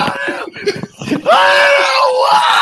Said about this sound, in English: Now that I'm playing, like, yeah, oh, we're getting raided. Oh my God. We're getting screams.